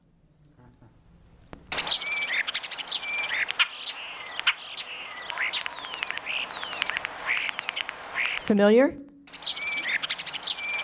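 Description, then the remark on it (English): European starling squeaking calls: a busy, continuous stream of high, scratchy squeaks, clicks and whistles, with a sliding whistle near the end. A voice briefly speaks at the start. “You hear that little squeak, squeak, squeak, squeak? That's a starling.”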